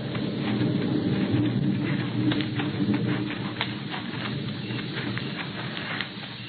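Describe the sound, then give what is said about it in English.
Hooves of a single walking horse, led on foot toward a hut, clip-clop in an unhurried, uneven rhythm, set against a steady low outdoor rumble, with no one speaking. “To the widening of the canyon, dismounted, and went the rest of the way to the hut on foot. We took one horse with us.”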